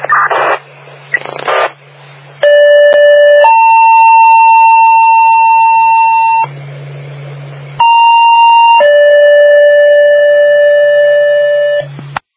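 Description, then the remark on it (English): Loud, steady electronic fire siren tones alternate between a lower and a higher pitch, each held for a second or more, broken by hissing bursts of radio static, during a radio siren test by fire dispatch to Oppenheim. “Fire dispatch to Oppenheim. Time radio siren, check okay, end of test.”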